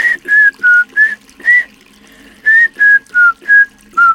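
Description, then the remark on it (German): Someone whistles through a gap in their teeth, a breathy, airy tune of about ten short notes in two runs of five with a brief pause between, fairly loud, no talking. “pfeifst du uns mal was durch deine Zahnlücke vor?”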